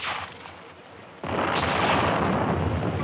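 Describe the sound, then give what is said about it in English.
A sudden heavy blast erupts after a stretch of dull rumbling, then a sustained roaring wash of noise follows as a sea mine is detonated by gunfire. No voices are heard. “Nice shooting back there. Well, there's one mine that won't do any more damage.”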